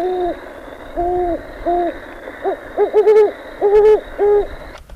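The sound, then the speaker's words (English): Two great horned owls, played from a tape recorder, hoot in turn: a male gives a steady series of deep, resonant hoots, then a female a quicker cluster of slightly higher ones, clear, with no talking over them. “This is going to be a great horned owl.”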